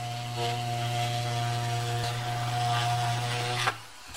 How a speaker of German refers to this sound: schneidet Marianne Meinl einem bereits fertig modellierten Puppenkopf aus gehärtetem Schaumstoff den Mund auf, mit einer elektrischen Säge